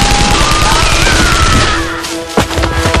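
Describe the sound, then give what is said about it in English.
A loud, sustained burst of Kalashnikov automatic rifle fire spraying through brush from left to right, shots blurring into a dense rattling roar for about three seconds, with a sharper crack standing out near the end. No one speaks. “The Kalashnikov spit out an arc of lead even before Micah had stopped rolling, spraying through the brush from left to right.”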